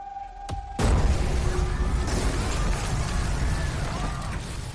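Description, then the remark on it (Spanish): A sudden, loud explosion at an airport, from the trailer of the film Todos los nombres de Dios, erupts after a brief quiet hum, followed by a sustained roar of rumbling debris and crackling that continues at high intensity for several seconds. “Todo empieza con esa explosión en el aeropuerto y luego lo que viene, la verdad que es muy interesante, Sebastián.”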